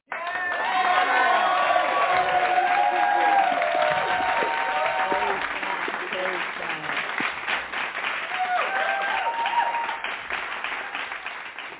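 audience applauding

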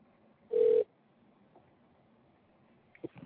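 telephone call ringing

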